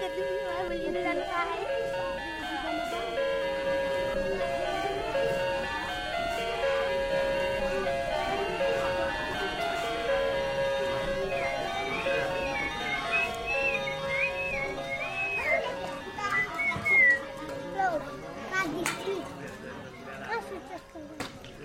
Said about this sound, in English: In the dining room, there was a clock on the wall with these funny chimes that sounded like something out of a video game.